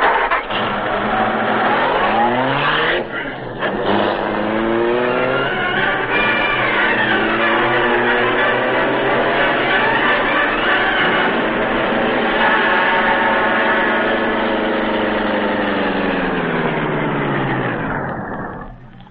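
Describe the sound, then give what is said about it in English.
A car engine runs loud, revving up with rising pitch as the car pulls away from a driveway and accelerates, the motor droning steadily throughout with no voices. “He's going toward a car in the driveway.”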